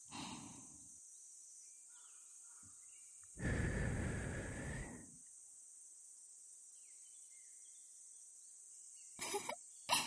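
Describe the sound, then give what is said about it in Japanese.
A long, breathy puff of air blown into the ear lasts about a second and a half over a steady, high insect-like buzz. A few shorter, fainter puffs follow near the end. “かわいい植木鉢に水やりするみたいに、一日三回、ふうふうって、吐息をプレゼントしてあげないと。”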